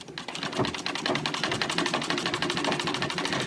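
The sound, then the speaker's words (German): A sewing machine runs steadily, its needle hammering in a fast, even rhythm of sharp clicks over a mechanical whir, fairly loud with no voices. “Anfangs noch händisch, später mit Hilfe der Nähmaschine, der eine elementare Bedeutung in der Erfolgsgeschichte der seriellen Fertigung von Kleidung zukommt.”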